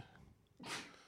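A single sneeze bursts out sharply after a brief quiet breath, a loud airy blast that fades quickly, with no talking.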